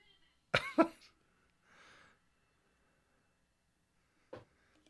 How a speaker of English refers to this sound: That coughing was me on my 30th birthday party. It's like you never smoked before.